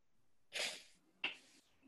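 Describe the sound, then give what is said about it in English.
A sneeze bursts out with a hissy inhaled buildup followed by a sharp, explosive release a moment later, fairly loud, with no talking. “God bless you, man.”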